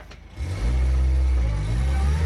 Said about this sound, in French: La voiture descend les rues pour rejoindre bientôt la Seine.